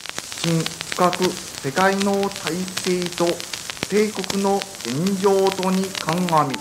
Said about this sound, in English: People told us to listen to the radio 12 noon. They tuned in. At first, it was just static.